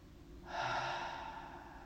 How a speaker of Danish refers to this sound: Og når vi trækker vejret ind, nærer vi kroppen med ilt. Og når vi ånder ud,